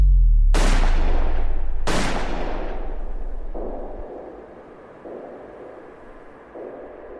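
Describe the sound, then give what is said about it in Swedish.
Two sharp, loud gunshots fired at close range by a gunman coming up behind Olof and Lisbeth Palme at 23:21, about a second apart, each followed by a long echoing decay, then a low rumbling tail with faint repeated thuds; the first hits Olof Palme in the back, the second grazes Lisbeth Palme's back. “Klockan är 23:21 när gärningsmannen kommer fram bakom makarna Palme och skjuter två skott på nära håll.”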